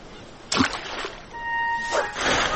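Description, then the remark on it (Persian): A sudden splash as a poor fisherman throws his fishing net into the water, followed by softer sloshing and a second burst of churning water, moderately loud, with no talking. “اما یک روز او جال ماهیگیری خود را در آب انداخته و متعجب شد.”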